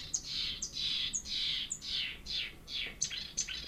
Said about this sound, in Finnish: Taas tulee peippoa.